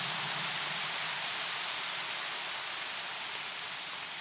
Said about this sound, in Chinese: 好，鼓掌响了我就讲了啊。